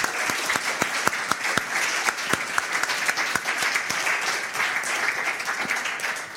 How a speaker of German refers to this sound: Genau. Großen Applaus